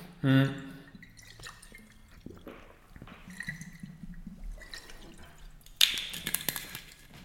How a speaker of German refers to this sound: Deswegen, ich nehme jetzt mal direkt kurz einen Schluck Wasser und dann würde ich sagen, gehen wir auch direkt einmal weiter rein.